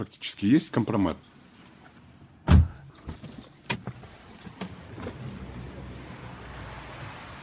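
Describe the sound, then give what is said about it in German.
A car comes to a halt in front of a house in the city centre of Almaty, near the central department store, with a sharp thump and a few mechanical clicks, then a steady low rumble of the idling vehicle and street noise. Brief muffled voices sound at the start. “ist mit seinem Auto ins Stadtzentrum von Almaty gekommen und hält vor einem Haus im Zentrum, nahe dem ZUM, dem Zentralkaufhaus.”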